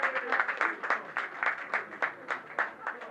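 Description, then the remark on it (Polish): An audience at a Miss University pageant claps for the female contestants for a few seconds, the crisp hand claps dense but fairly modest in volume, keeping up a steady patter with no voices rising above it. “Prosimy, prosimy bardzo. Brawa dla kandydatek.”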